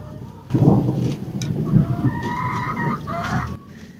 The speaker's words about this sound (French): Je suis dans le poulailler et en fait il y a de l'orage et du tonnerre. J'adore ça. Et le ciel est gris, il y a des gros nuages bas.